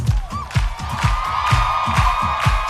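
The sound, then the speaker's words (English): An audience at an evening church praise service claps in a steady, quick rhythm while cheers and crowd noise hold a loud, continuous wash underneath, with a sustained musical tone running through. “Everybody, clap.”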